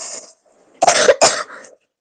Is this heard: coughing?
yes